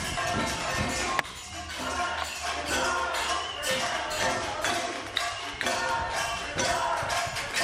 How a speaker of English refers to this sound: And there's a knocking on the door of the mayor of City Council's main offices.